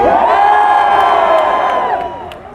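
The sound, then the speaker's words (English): A large crowd of Jags fans cheers and whoops at the 2013 NFL Fan Rally in Trafalgar Square, a sustained roar of many voices, loud and steady before fading slightly toward the end, with no distinct words. “Jags fans and people who are going to cheer for the Jags tomorrow.”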